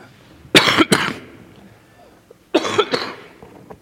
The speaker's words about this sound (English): Excuse me while I cough up a lung. You've got two, right? You don't need them both.